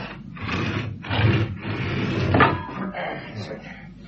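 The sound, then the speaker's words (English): A heavy garage door rattles and scrapes as it is pulled shut, with a sharper clunk partway through, while voices murmur over the noise. “Give us a hand to shut the garage door.”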